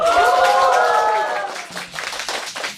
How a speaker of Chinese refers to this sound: 感谢感谢，明显这个欢呼声就弱很多。